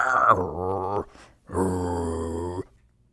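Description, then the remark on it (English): A man growls like a dog twice, two low, rough, sustained vocal rumbles of about a second each, separated by a short breathy pause, fairly loud. “That means quiet for toy poodles, but all other breeds of dog, it is.”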